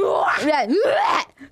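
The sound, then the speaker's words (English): A person imitates a whale call with a loud, drawn-out moan that swoops down and back up in pitch, likened to Free Willy and Nemo, followed by a brief pause and a short vocal sound. “He's like a whale.”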